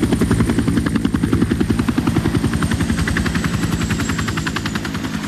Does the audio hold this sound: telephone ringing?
no